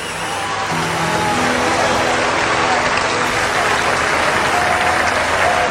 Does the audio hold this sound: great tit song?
no